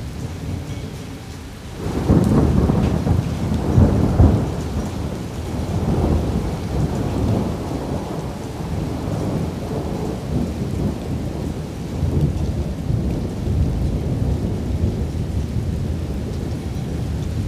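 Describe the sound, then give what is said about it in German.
A steady cold rain shower hisses throughout while a deep, rumbling roll of thunder swells after a couple of seconds and slowly fades, leaving the constant patter of rain. No voices. “Kalter Regen hat uns überrascht und sicher auch die Glühwürmchen.”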